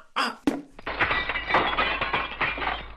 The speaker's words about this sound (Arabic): أصابت الكرة زجاج الشباك وكسرته